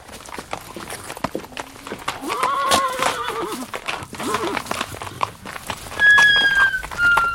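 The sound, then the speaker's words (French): Horses whinny in drawn-out, wavering neighs, then a sharper high neigh near the end, while hooves knock and shuffle on a hard floor throughout, in a stable. “Versez là-dedans 2 boisseaux d'avoine sèche et apportez 8 bottes de paille. 5 pour les chevaux et 3 pour moi.”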